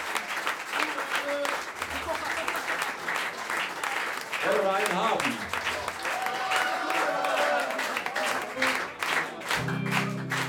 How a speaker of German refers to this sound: Ihr habt gut geklatscht heute Abend.